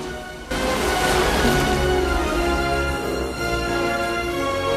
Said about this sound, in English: charges up through the clear blue ocean, breaks the surface, then crashes back down on his back amongst the other whales.